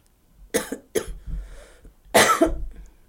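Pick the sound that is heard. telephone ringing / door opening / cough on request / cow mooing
cough on request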